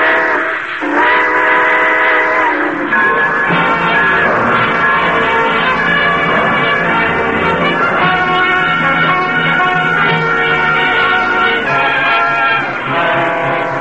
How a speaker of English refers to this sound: All aboard! Folks, it looks as though we're ready to pull out.